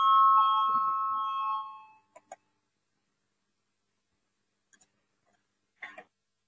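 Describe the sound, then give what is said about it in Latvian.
A loud, steady electronic voting bell in a parliament rings for about two seconds and cuts off, calling a vote on a legal committee proposal, followed by a few sharp clicks amid otherwise quiet. “Lūdzu, zvanu, balsosim par 10. Juridiskās komisijas priekšlikumu.”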